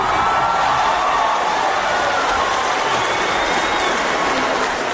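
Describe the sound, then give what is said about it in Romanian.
Deputies in the lower house of parliament in Canberra, Australia, and human rights advocates in the public gallery give a minutes-long standing ovation for the passing of the marriage equality bill, with dense, continuous clapping and cheering that stays loud and steady for the whole stretch, never pausing. “Deputații din Camera Inferioară a Parlamentului de la Canberra și apărătorii drepturilor omului prezenți în galeria publicului au aplaudat minute de-a rândul în picioare victoria răsunătoare a promotorilor egalității conjugale”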